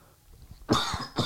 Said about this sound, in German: über diese Husten. Ich muss mich einfach nur entschuldigen für das, was hier ins Mikrofon gehustet wird. Aber ist halt so. Besser so als gar keine Folge.